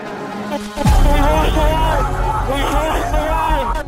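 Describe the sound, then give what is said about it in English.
A large protest crowd waving banners and Confederate flags outside the east wing of the Capitol, at a police barrier, murmurs and chatters in a dense, continuous hubbub, many voices overlapping at a steady, fairly loud level with no single speaker standing out. “This crowd outside the east wing of the Capitol will soon overwhelm the police barrier.”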